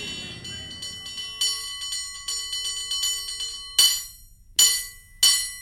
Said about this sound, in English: So that rumbling motorcycle and the car alarms are from a recording on a parklet on Turk Street in the Tenderloin